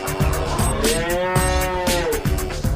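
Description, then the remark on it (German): A cow moos in one long, loud, drawn-out call that rises and then falls in pitch, with a few soft knocks and shuffling noises underneath. No one speaks. “Beliebt sind seither die Tiere, die viel Milch geben. Solche Kühe wurden in den 1960er Jahren gezüchtet.”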